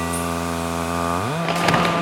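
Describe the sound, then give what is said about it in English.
A Berlin S-Bahn train engine starting from a station: a deep, steady humming drone with strong harmonics, which abruptly jumps up an octave in pitch, then gives way to a louder rushing, rattling noise. “It starts and then the engine begins deep.”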